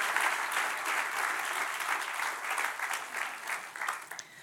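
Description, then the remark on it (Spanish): Sustained applause from an audience, a dense wash of many hands clapping steadily for several seconds, fairly loud, with no voices over it. “Denle otro aplauso fuerte.”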